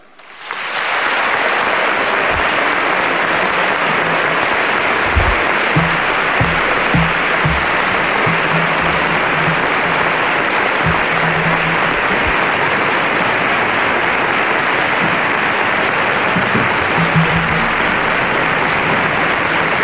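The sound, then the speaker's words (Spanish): A large audience claps loudly and continuously for about twenty seconds in flamenco bulerías rhythm, a dense, steady wash of applause with faint crowd murmur beneath and no clear speech, applauding the 2009 Holy Week proclamation at the Coliseo Jerezano in Jerez. “Pues ahí quedan las palabras de Manuel Garrido Arca, pregonero ya de la Semana Santa de 2009, recibiendo el aplauso por bulerías del respetable público que se da cita en el Coliseo Jerezano, que da por iniciada la Semana de Pasión de nuestra ciudad.”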